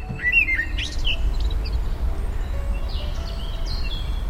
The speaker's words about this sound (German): Hamburg an einem sonnigen Frühlingstag. Die Vögel zwitschern in den Parks und auf dem Markt unter der Hohe Luftbrücke, werden Veilchen, Primeln und Vergissmeinnicht verkauft.